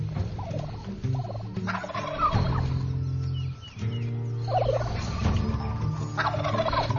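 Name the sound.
wild turkey males gobbling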